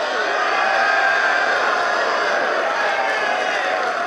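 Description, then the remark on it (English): A large graduation crowd roars and cheers in a loud, steady wash of many voices that holds for about four seconds, with no single voice standing out and no clear chant rhythm. The crowd is responding to billionaire investor Robert Smith announcing at the end of his speech that his family would eliminate the graduating class's student loans. “It took a couple of seconds for the crowd to respond. When they did, they started chanting MVP.”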